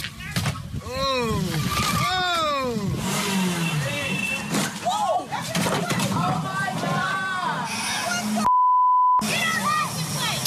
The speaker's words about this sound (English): Gee, the revving of that engine. That is unbelievable.